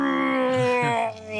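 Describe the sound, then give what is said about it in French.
A human voice imitates a red deer's bellow with a single sustained, buzzy, low moan rich in overtones. It holds steady and fairly loud, then dips briefly before swelling again at the end. “Et pas mal mon brame.”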